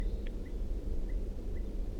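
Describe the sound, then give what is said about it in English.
Faint type 2 crossbill calls from down the hill: a few short, sharp chip notes spaced irregularly over a steady low rumble of background noise. “I do hear a type 2 crossbill calling from down the hill.”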